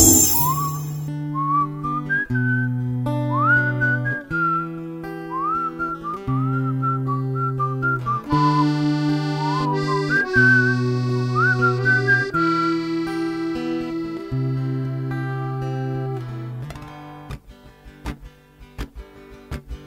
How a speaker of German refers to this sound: Ich pfeif nur die Melodie und treibe euch den kalten Schweiß auf die Stirn.